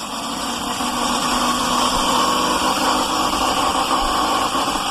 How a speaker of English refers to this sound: But he continued to use his loud blender to make smoothies at 5:30 every morning.